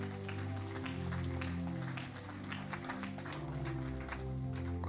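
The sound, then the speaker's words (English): An audience claps steadily for the full clip as a clap offering for the apostles and Paul, a dense, continuous patter of many hands, with sustained low musical tones humming underneath. “Let's give all of them a super clap offering, somebody.”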